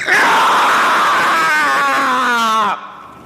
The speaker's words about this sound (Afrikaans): 'n Rou kreet beer op in haar ribbekas en beland in haar mond. Die geluid wat oor haar lippe ontsnap is die van 'n wilde beer wat in Flight Center losgelaat is.